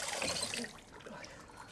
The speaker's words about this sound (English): She rinses her face with tap water.